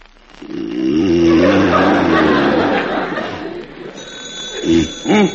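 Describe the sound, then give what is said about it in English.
A loud, continuous old-style telephone bell rings with a harsh metallic clatter for several seconds, then a thinner high tone lingers while short vocal sounds, like chuckles, break in near the end. “Put down the alarm clock. It's the phone.”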